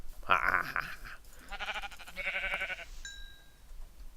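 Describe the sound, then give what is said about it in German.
A sheep bleats several times in quick succession, wavering, nasal cries that are fairly loud, followed by a faint high chime fading out. “Da ist ein Schaf.”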